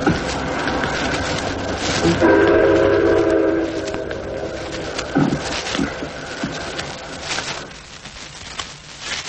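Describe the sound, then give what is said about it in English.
At night, a distant train that is about to meet and pass a train stopped in a siding sounds one long, lonely whistle blast over the steady rumble and clatter of a moving train. The whistle then fades, and the rolling rail noise carries on. “And in a moment, in the distance, you'll hear the long, lonely whistle of the train that you're to meet and pass in the darkness.”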